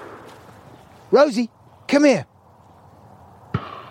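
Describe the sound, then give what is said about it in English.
A single sharp gunshot crack from hunting rings out near the end, after a person calls out a couple of words over a quiet background hiss. “That is the sound of people are hunting out in these parts. I suppose they're shooting partridges, pheasants?”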